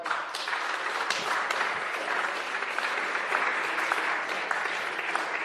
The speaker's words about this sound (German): Applaus.